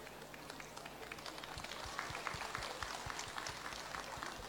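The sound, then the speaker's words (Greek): Steady audience applause at the Greek Festival of Sydney for Liberal Party federal senator Thanasis Sinodinos, filling the whole stretch, a dense wash of many hands clapping at a moderate, even level, with a few sharper individual claps standing out. “Το χειροκρότημά σας λέει πολλά.”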